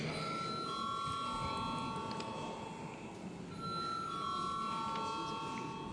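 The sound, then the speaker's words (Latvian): The chamber bell of the Saeima, Latvia's parliament, rings before a vote in two long, steady, high-pitched tones separated by a brief pause, sounding over a constant low murmur of background noise. “Vēlreiz lūdzu zvanu.”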